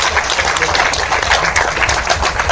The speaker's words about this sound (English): So a round of applause for all the panelists that volunteered their time to entertain and educate.